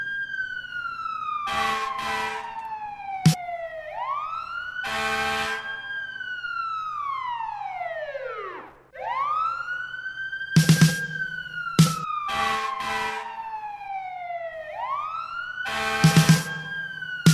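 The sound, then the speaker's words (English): Sirens of three fire trucks wail loudly, sweeping up and down in long repeated cycles, punctuated by short bursts of horn blasts. No one speaks. “Fire trucks, three of them.”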